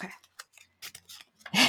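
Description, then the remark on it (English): Paper slips rustle and crinkle as three are drawn one by one out of a big jar full of slips of paper, in several short bursts separated by brief pauses, ending with a louder scrunch. “It's full of slips of paper. I'm going to take out one for you, one for me, one for the audience.”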